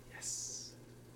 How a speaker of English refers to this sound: All right. So now we're going to add the water. Uh-huh. Woo. Which, that's the sound we want.